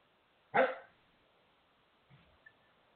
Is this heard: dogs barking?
yes